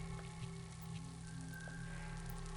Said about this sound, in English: It's raining. And it's powerful.